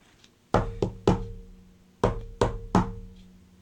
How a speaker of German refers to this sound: Und dann klopft er an der Tür.